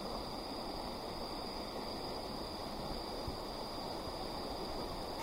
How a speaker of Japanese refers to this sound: 川も流れておりますね。橋の上で止まった事件でした。